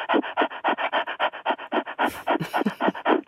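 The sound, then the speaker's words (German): A person demonstrates panting like a dog with its tongue hanging out: rapid, rhythmic breathy huffs, about five per second, steady, with no talking. “Wenn die dann hecheln mit der raushängenden Zunge, ich mach's mal vor.”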